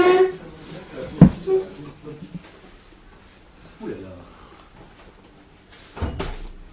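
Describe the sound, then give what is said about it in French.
A door is pulled open: a sharp clunk of the latch, then softer creaks and knocks spread over a few seconds, with faint murmuring voices in the room. “Ah bon, dans ce cas-là, il vaut mieux peut-être ouvrir un peu la porte.”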